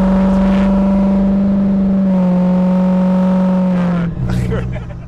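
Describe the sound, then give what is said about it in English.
A diesel pickup truck engine roars loudly with a steady, heavy drone, then its pitch dips and shifts as it revs near the end. “it's this truck.”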